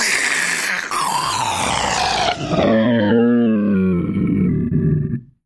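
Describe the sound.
A person imitates a triceratops with a long, throaty roar, starting as a harsh bellow and sliding down into a rough, wavering growl that fades out after about five seconds.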